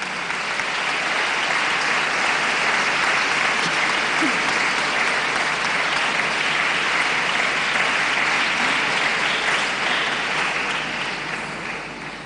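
Sustained, dense applause from a sizable audience, steady and loud for about twelve seconds before tapering slightly at the end, with no clear voices over it.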